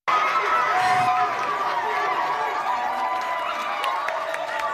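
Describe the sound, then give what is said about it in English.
A packed crowd of supporters cheers and shouts in a courthouse hallway as the Bay Bridge 78 protesters walk out of the courtroom, a steady, loud wash of overlapping voices and whoops that holds for several seconds without a break. “The Bay Bridge 78 walked out of the courtroom to the cheering crowd that had packed the hallway to support them.”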